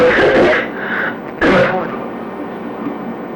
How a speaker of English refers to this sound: That's coughing.